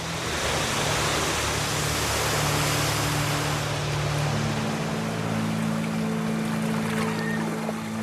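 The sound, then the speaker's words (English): Loud, steady rushing of turbulent water that is rapidly falling around submerged trees, a dense churning roar with a low engine-like hum running underneath throughout. “Cat struggles to keep its grip on the float in the turbulent water.”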